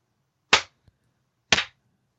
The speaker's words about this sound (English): That's my slow clap. Because I know this is radio, not TV.